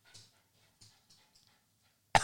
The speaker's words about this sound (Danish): I baggrund. Det går simpelthen ikke. Tror du, der er andre reklamer, der har en hund, der stønner? Simpelthen ikke.